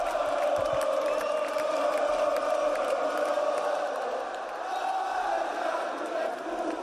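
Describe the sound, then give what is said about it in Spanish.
A crowd of about 2,000 fans at the stadium roars and cheers without pause as the Valencia team bus arrives, a dense, loud wall of voices with shouts and whoops rising out of it, dipping only slightly before swelling again. “Y este era el momento en que llegaba el autobús del Valencia.”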